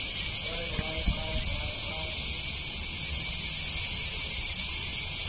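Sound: cicadas chirping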